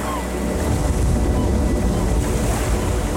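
Steady roar of sea surf with gusting wind buffeting the microphone, a dense continuous wash with low rumbling underneath and no clear breaks between waves.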